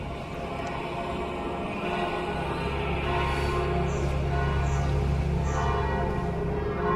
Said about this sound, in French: Alors là, c'est les cloches de Saint-Pierre que vous entendez, et puis de l'église paroissiale, parce que la messe va commencer.